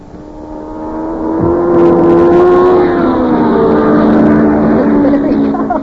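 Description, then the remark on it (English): A race car engine whines loudly as it speeds past on a track, its droning pitch swelling near the middle and then bending away, with faint voices in the background. “There he goes. Oh, yeah, he's faster than last time.”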